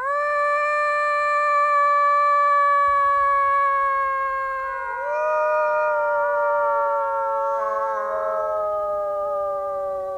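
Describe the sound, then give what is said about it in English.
Several people on a night trip with a naturalist howl into the dark woods, hoping wolves will howl back, in long, sustained wolf-like calls that slowly fall in pitch, with new howls joining and overlapping partway through against a quiet night background; no wolves respond. “You can even take a trip into the woods at night with a naturalist to howl into the darkness in hopes that wolves will howl back.”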